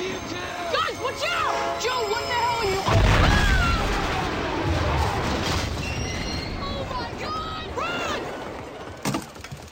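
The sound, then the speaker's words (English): A train explodes with a sudden heavy boom about three seconds in, followed by deep rumbling and crackling debris. Shrill whistling, wailing tones and muffled voices rise and fall around it. “Well, that's the sounds of the train exploding.”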